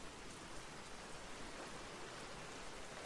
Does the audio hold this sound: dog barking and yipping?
no